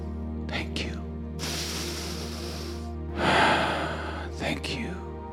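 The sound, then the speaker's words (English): A deep breath drawn in slowly, followed by a long, audible exhale over a low steady hum. “So when I take a breath, it's a reminder, thank you.”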